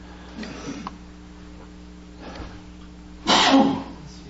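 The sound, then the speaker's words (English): A single sharp sneeze bursts out near the end, louder than anything else, after a couple of softer breathy sounds, over a steady low hum. “Bless you.”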